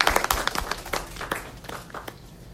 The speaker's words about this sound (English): Let's give him a big clap of hands.